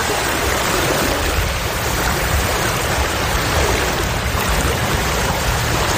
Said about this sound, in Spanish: Esto es agua, esto es el mar, ¿no? Esto es el mar en un sitio muy curioso. Un sitio donde pone un monolito de piedra que pone una inscripción en polaco. Aquí empieza Polonia. Es una península que se llama Hel, una península de 34 kilómetros de largo